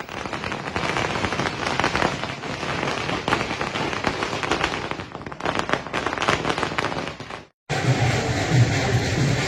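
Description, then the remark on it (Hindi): Dense, continuous crackling of firecrackers outside Kejriwal's official government residence before his arrival, a rapid string of sharp pops that runs for several seconds, breaks off briefly, then resumes with a low rumbling backdrop. “जिस घर से उन्हें अपराधियों की तरह ले जाया गया, आज उसी घर में केजरीवाल हीरो की तरह लौटने वाले थे, तो आतिशबाजी उनके पहुंचने से पहले उनके सरकारी निवास के बाहर शुरू हो गई।”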